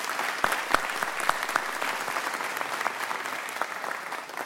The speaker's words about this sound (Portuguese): Eu pediria a vocês um aplauso para Maria José, uma ausente daqui.